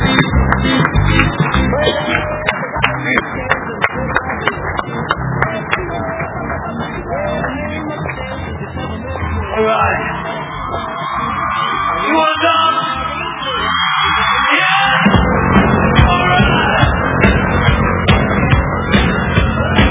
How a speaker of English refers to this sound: And guys, get up on your feet and clap your hands